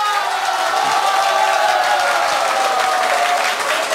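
Sustained audience applause, a dense, steady wash of many hands clapping at a constant loud level for the full four seconds, with no talking over it.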